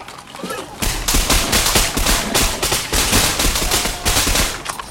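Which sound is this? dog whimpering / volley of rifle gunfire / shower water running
volley of rifle gunfire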